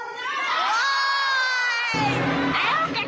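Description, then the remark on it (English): A large crowd yells a reply in unison to the question of what Trump did, a loud, sustained roar of many voices lasting a few seconds before breaking into scattered cheers. “And let me ask the crowd, what did Trump do?”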